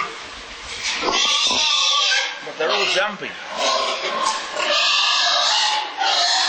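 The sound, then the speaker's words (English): Pigs grunt and squeal continuously, loud, with overlapping harsh squeals throughout, while a person speaks briefly over the noise. “Pigs are curious animals.”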